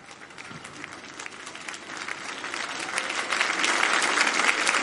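Sustained applause from a large crowd rising to their feet to applaud, dense and steady, swelling louder over a few seconds as more people join in with enthusiastic clapping.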